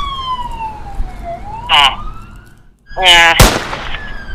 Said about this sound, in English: Yeah, Sloan, are those sirens I hear in the background?